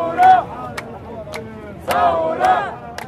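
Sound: crowd of protesters shouting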